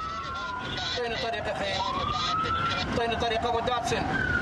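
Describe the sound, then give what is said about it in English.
An overloaded ambulance's siren wails with a slow rising and falling pitch as it is blocked at a checkpoint manned by Iraqi soldiers in dense, noisy, backed-up traffic, with overlapping voices and street commotion throughout. “But the overloaded ambulance didn't get very far before it was blocked by a checkpoint and backed up traffic.”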